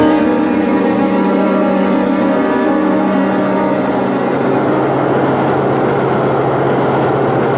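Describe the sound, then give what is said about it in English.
A subway train runs loudly and steadily, its heavy engine drone and rumbling wheels holding a constant hum with tonal whine throughout, with no voices. “Come on over to the subway.”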